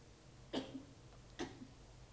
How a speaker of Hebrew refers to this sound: פתאום מישהו משתעל. איך זה מורגש בגוף?